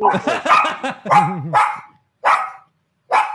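A dog, reacting to noises going off, barks in a rapid, yappy burst of several barks with a wavering whine, then two more single barks follow after short pauses.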